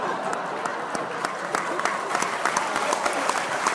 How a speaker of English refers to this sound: And as you can hear, the crowd is going wild in the Millennium Dome tonight for ….